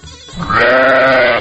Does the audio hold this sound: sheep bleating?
yes